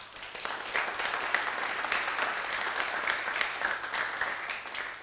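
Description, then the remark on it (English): Steady applause from an audience for a team member who handles the front desk, many hands clapping in a dense, continuous patter at an even volume throughout, with no voices standing out. “that deserves a big round of applause”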